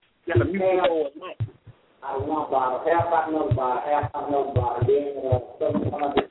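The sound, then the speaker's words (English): Muffled, tinny voices from a church service come through a narrow phone line from a phone in someone's pocket, continuous and indistinct, the words unintelligible. “Sound like somebody got their phone in the pocket.”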